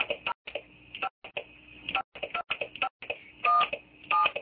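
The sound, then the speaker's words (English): A telephone number is dialed on a regular phone to reach a caller: a quick, uneven run of short clicking button presses, ending with two longer steady beeping tones. No one speaks. “Let's try her a couple of numbers. We're going to have to do this old-fashioned style.”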